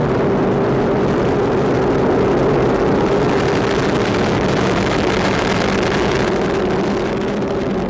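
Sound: rocket booster engines roaring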